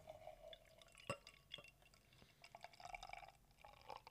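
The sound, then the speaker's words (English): A 6% stout beer pours into a glass, with a quiet gurgling stream, scattered drip-like clinks and a soft fizzing hiss as the head rises. No one speaks. “We'll do the pour.”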